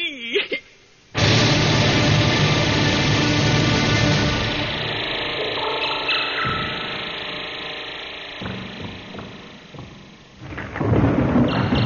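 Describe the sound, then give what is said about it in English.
Heavy rain pours down in a loud, steady hiss with a low rumble beneath it. It starts abruptly after a brief quiet moment, eases slightly midway, then swells again near the end. “Listening to the rain.”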